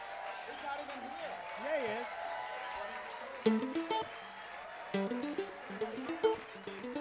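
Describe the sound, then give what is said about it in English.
An audience applauding to encourage a musician out, a steady, dense wash of clapping, with voices calling out over it and a few louder bursts of tonal sound in the second half. “Maybe what we could do is encourage him by just applauding until he gets there.”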